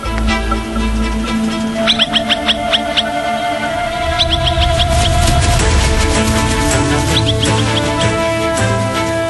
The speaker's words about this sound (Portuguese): Eles sabem que os filhotes seriam presa perfeita para as raposas. O pai vai mostrar a que veio e solta o alarme.